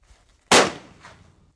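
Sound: rifle shot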